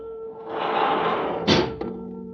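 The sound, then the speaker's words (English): Elevator doors in a museum slide with a rumbling whoosh, then shut with a solid thunk and a smaller clunk right after, over a steady mechanical hum. “I heard the elevator doors open and close.”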